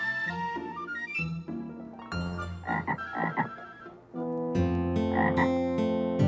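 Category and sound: animal, frog croaking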